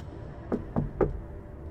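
Three quick knocks on metal in an even rhythm, each a short thud with a faint ring, against a low steady background hum.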